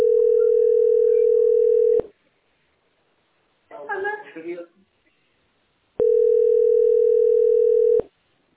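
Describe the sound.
Two long, steady telephone dial tone beeps, each lasting about two seconds at a mid-low pitch, separated by a pause in which a voice briefly speaks.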